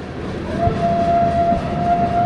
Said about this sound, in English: Not far from the site of the Battle of the Little Bighorn, a coal train rumbles through the Crow Reservation.